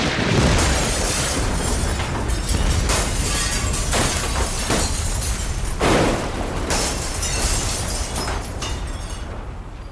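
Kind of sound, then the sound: sound effect, lightning strike thunderclap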